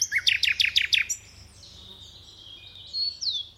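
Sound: birds chirping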